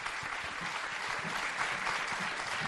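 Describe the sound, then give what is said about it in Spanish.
An audience at a special radio station programme applauds steadily to bid farewell to a guest, a dense, even wash of many hands clapping at once that holds at a fairly loud, constant level without building or fading. “La despedimos con un fuerte aplauso.”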